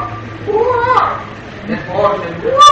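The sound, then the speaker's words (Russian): A voice mimics children crying, letting out wavering, rising and falling wails in a few fairly loud bursts with no actual words. “Дети так плачут.”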